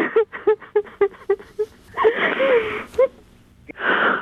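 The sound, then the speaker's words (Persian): A woman cries emotionally, fairly loud: about six quick, catching sobs, then a long breathy wail and another ragged, shuddering breath. “باش گریه نکن، چرا گریه نکنی؟”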